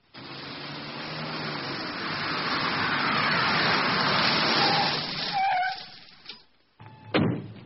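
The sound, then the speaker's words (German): A Mercedes car approaches, its engine and road noise swelling steadily for several seconds before cutting off, followed by a couple of short, sharp thumps like a car door. “Drei Wagen. Das ist der Mercedes von Herrn Müller.”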